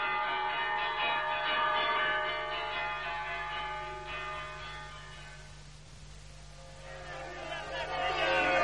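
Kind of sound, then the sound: signal or alarm, alarm bell ringing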